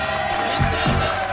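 A short burst of dense, steady applause from a crowd, with a couple of rising whoops cutting through the clapping, for a guest on the Quack FM radio show in the studios of La Zapateira, Coruña, Galicia, Spain.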